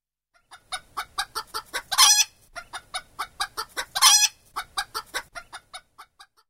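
A chicken clucks in a steady series of short pulses, broken twice by longer, louder squawking bursts before the clucks trail off. No one speaks.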